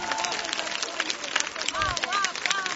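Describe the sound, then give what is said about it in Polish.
A crowd claps in a dense, steady, reverberant patter of many hands, with excited voices calling out over the applause, clapping to thank God for the sunny weather. “Podziękujmy Panu Bogu gorącymi oklaskami.”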